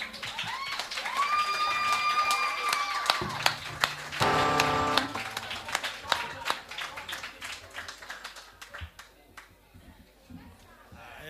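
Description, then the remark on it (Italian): An audience applauds steadily, with scattered claps that thin out and fade toward the end. A sustained tone and some voices can be heard underneath at the start. “Un applauso un po' più forte.”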